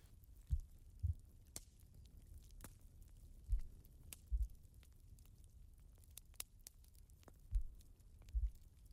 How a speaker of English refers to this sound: Your heartbeat slowing down. It's nice to see you're finally calm.